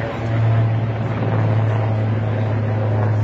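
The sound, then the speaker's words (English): A helicopter drones steadily overhead in London, its loud, continuous rotor and engine roar holding a deep low hum throughout, unbroken, with no voices. “Look at the chopper. Do we catch sight of it? There it is.”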